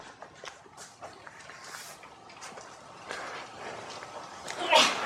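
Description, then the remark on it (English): A single sharp sneeze bursts out near the end, louder than the rustling, shuffling noises that fill the moments before it. “Bless you.”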